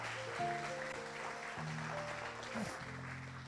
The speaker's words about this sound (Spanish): Eso merece un aplauso.